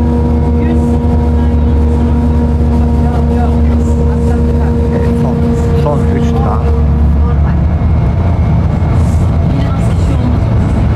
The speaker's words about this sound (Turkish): Gürültülü bir 22 hattındayım arkadaşlar. Baya baya gürültüsü olan bir otobüs. Uzun süredir böyle basamaklarla çıktığım otobüslere rastlamıştım.